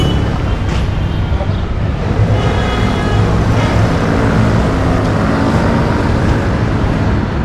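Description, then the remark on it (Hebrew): Dense traffic on a typical Tel Aviv city street, with cars and buses rumbling past in a constant, loud low roar, engines and tire noise blending together without pause. “זה רחוב תל אביבי ממוצע, הרבה רעש, גם מכוניות, גם אוטובוסים, גם אמבולנסים, שלא לדבר על מטוסים.”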